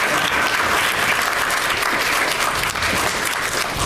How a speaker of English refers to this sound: They're really making you applaud for a long time with their casual stroll to the stage.